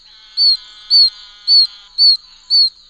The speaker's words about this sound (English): it has a high-pitched peeping, sounds almost like a squeaky wheel, also very high-pitched, not at all like the trill of the American toad. So this is a little tiny toad about an inch long.